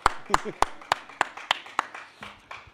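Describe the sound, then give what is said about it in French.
Sparse applause from an audience for a man who has just undressed in front of them: about nine sharp, distinct claps at a steady, unhurried pace, moderately loud, with a faint murmur of background voices between them. “On peut l'applaudir parce qu'il vient de se dessaper devant vous. Bravo et merci.”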